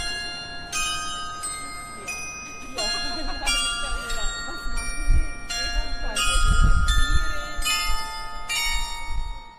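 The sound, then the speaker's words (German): The glockenspiel at the Kurz jewellery shop on Bahnhofstrasse in Zürich plays a bright melody of ringing chimes, one tone after another in a steady tune, with lingering overtones and faint street bustle and murmuring voices underneath. “Und zwar von der Kathedrale in Fribourg, in Lausanne, vom Münster in Bern, vom Kloster Einsiedeln und vom Glockenspiel beim Bijoutiergeschäft Kurz in Zürich an der Bahnhofstrasse.”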